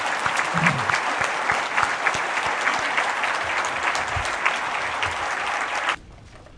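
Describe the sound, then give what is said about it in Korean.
A room full of people claps steadily for about six seconds, applause of blessing for a professor at a Christian gathering, a dense, sustained wash of applause that cuts off abruptly, leaving near silence. “우리 교수님께서 앞으로도 또 남은 여생을 주님을 위해서 더 잘 쓰임 받으실 수 있도록 우리 축복의 박수를 다시 한번 부탁드립니다.”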